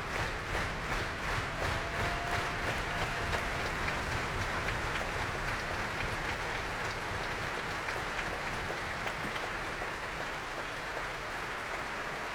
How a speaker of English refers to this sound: But somebody's stamping very, very loudly indeed.